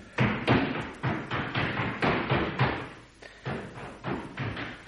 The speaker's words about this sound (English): That's him rolling out of bed and banging his bedroom door.